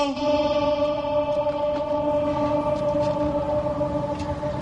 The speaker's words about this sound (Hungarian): Van itt egy kis ablak, ahol be lehet egyébként kiabálni, nem tudom, mennyire adja vissza a mikrofon. Mindjárt kiderül. Igen, tehát a rácsokon be lehet kiabálni, azért már van ennek most is visszhangja.